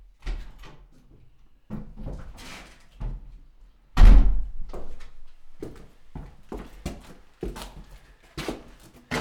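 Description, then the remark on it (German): A door is opened and then shut with a heavy thump around the middle, surrounded by creaks, shuffling and knocking handling sounds; fairly loud, with no talking. “Tür ist offen!”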